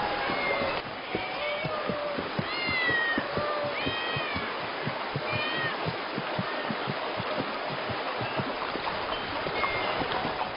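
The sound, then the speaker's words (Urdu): Many cats in a city meow at once in an overlapping chorus, their rising and falling cries repeating throughout over a busy, clattering background with faint voices. “یہ اتنی ساری بلیاں یہاں کیا کر رہی ہیں؟”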